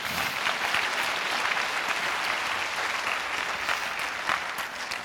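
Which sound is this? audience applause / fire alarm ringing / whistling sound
audience applause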